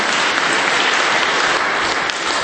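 A crowd of people at a conference applauding steadily, dense clapping spread evenly across the whole stretch with no voices or gaps, fairly loud.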